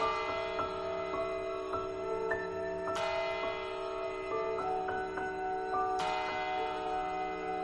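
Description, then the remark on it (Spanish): Bells chime for the New Year, a slow stepping melody, with two heavy, resonant strikes about three seconds apart whose tones ring on and overlap. There is no talking. “También para mí han sonado las campanadas de un año nuevo, sin uvas, sin champán.”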